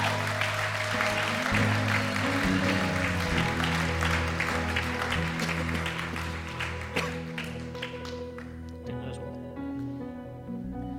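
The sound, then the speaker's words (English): A church audience gives the Lord a round of applause after someone gave their life to Jesus, with dense, steady clapping over sustained keyboard music, the crowd noise thinning out and fading in the final seconds while the music continues. “If you were those person, let's give the Lord a round of applause.”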